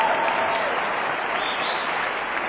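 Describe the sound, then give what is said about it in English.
A crowd claps steadily throughout, a dense, sustained wash of many hands applauding at even loudness, with faint voices mixed into the noise. “But how many people, by round of applause, are just amazed you're hearing that for the first time and you had no idea?”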